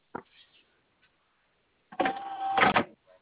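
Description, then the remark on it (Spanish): An electric bolt door lock closing on command with the door open: a brief click, then a loud whirring motor buzz with a steady hum, lasting under a second and ending in a sharp clack before a faint tick. “Ahí está el cierre. Listo, ahí ya bajó.”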